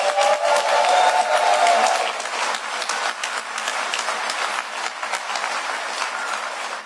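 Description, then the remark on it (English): A crowd lets out a loud, sustained cheering yell for the absent artist Mar for about two seconds, then the noise settles into steady, dense applause and clapping that carries on at a slightly lower level. “So for the cameras, can you guys give Mar a rousing, loud yell?”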